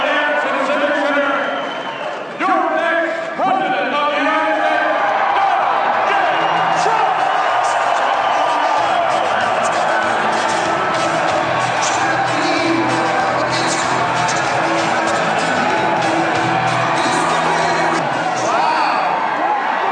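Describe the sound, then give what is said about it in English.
A large crowd at a 2016 U.S. election campaign rally, the venue's all-time record crowd, roars and cheers steadily for the full twenty seconds, a dense, loud wash of voices with a few sharper bursts and whoops near the start. “So this is their all-time record crowd of this place.”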